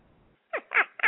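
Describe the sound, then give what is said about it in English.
A pet dog barks three times in quick succession after a brief moment of quiet; the barks are loud, harsh and slightly raspy, with no talking over them. “hey, that's my dog.”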